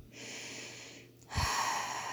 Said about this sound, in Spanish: Vamos a terminar respirando profundamente.